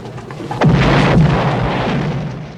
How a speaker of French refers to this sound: Et voilà la fameuse explosion de la voiture qui va lancer l'enquête policière et tout le film.